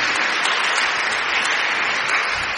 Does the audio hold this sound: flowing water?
no